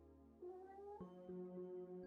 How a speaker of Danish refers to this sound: Og katten hilser på.